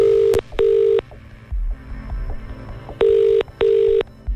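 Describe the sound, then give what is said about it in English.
A telephone ringback tone sounds loud and clear, two paired rings, a pause, then another pair, as a call is placed to a listener and left ringing, with no one speaking. “you need to answer your phone if we call you now a very particular way”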